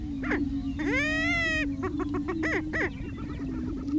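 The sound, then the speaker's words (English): Male prairie chickens call on a lek in tall grass at sunrise, bright orange air sacs showing on their necks, over a steady low booming hum: one long, wavering whoop followed by a run of short, sharp cackles and clucks, with no talking. “Bright orange spots appear on the sides of their necks as they call out.”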